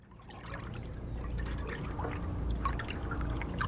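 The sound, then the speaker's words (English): Water trickles and pours steadily with no voices, a continuous wash flecked with small bright splashes and drips, growing slightly fuller toward the end. “And then later on, I dedicated one work to water.”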